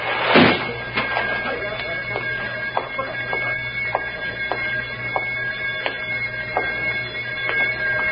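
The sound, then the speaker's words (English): A heavy metal door slides shut with a loud, harsh burst, followed by a series of sharp mechanical clicks and ticks over a steady low hum. “Metal door sliding shut.”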